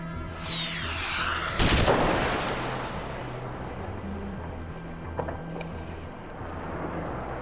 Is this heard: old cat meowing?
no